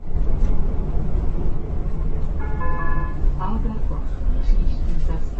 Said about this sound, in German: Seit wenigen Tagen ist die von den Prager Verkehrsbetrieben und den Pilsener Skoda-Werken entwickelte Niederflurstraßenbahn des Typs 15T 4City mit Fahrgästen auf den Prager Straßenbahnlinien unterwegs.